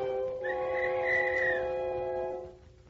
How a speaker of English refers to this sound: As if to mock me, I absentmindedly picked up the little tin whistle which was in the box of old things. It was now battered and rusty. Almost involuntarily, I put it to my lips and blew.